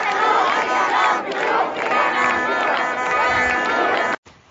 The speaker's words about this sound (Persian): فقط بنرهای خامنه ای هست که با شعار مرگ بر دیکتاتور داره میسوزه. اینجا اصفهان با مردمی بیدار که دشمنشون رو شناختن و دارن فریاد میزنن.